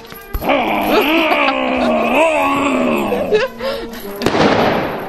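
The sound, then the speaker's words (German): A dark-brown bear, not a real bear, walking on a chain held by a bear handler in a street parade, growls: one long, loud, groaning rumble that wavers up and down in pitch for about three seconds, then fades, followed by a sharp pop and a rush of noise. “Im Zug läuft auch noch ein dunkelbrauner Bär mit und verschreckt die Leute, die am Strassenrand zuschauen.”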